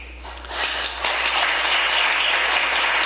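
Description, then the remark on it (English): A crowd applauds, the clapping swelling within the first half-second into a dense, steady patter that holds at a fairly loud level to the end. No one speaks over it. “Why are they clapping?”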